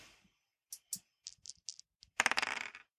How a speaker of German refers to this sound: Für mich würfeln Sie mal bitte.